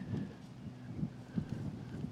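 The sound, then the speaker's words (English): Steady outdoor wind rushes and rumbles low, with soft gusty swells and faint thin high bird tones drifting above it; no one speaks. “Listen to the birds and the wind.”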